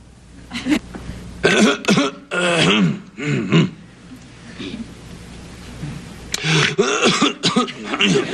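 A person coughs and clears their throat in several harsh, raspy bursts, fairly loud, with a quiet pause in the middle before another run of hacking coughs.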